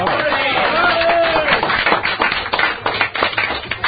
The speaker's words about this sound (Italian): Che merita un applauso persino più grande di quello che avete fatto già, perché al mio tre.